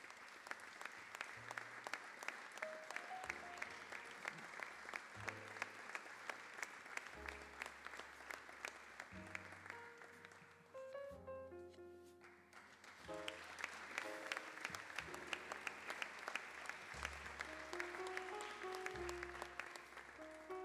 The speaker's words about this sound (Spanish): Y el aplauso también para el primer premio